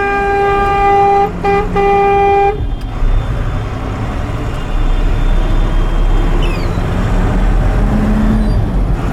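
A car horn blares loudly in a long honk broken by a couple of brief gaps, then gives way to a steady rumble of street traffic.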